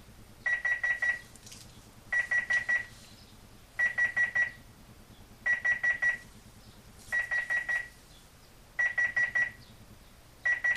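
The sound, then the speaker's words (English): An electronic computer timer alarm beeps as a 15-second timer runs out, in repeating bursts, each a quick cluster of four sharp, high tones followed by a short pause, continuing steadily and clearly with no talking, until the control key is pressed to stop it. “So I just hit the control key again to stop the timer.”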